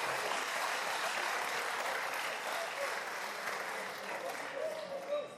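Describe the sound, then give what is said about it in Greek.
Sustained applause in the Vouli (parliament), not from all its wings, for a reference in a speech: a dense, steady crackle of many hands clapping for several seconds, with faint voices mixed in toward the end. “Το γεγονός ότι ούτε καν αυτή η αναφορά δεν μπορεί να εξασφαλίσει χειροκρότημα από όλες τις πτέρυγες της Βουλής λέει κάτι για το επίπεδο της τοξικότητας του πολιτικού διαλόγου.”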